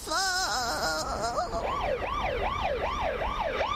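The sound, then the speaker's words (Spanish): An ambulance siren wails loudly as the ambulance heads to the hospital with a neighbour who had a heart attack at the polling station. Its pitch sweeps up and down in a steady repeating cycle over constant traffic noise, with no one speaking. “Y Alex se tiene que ir con ella en la ambulancia hasta el hospital.”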